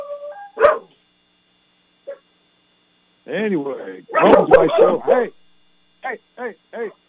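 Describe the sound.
Dogs bark in a loud cluster of overlapping yaps, then three short sharp barks after a pause; a man speaks briefly before the barking starts, in San Antonio on a Saturday afternoon.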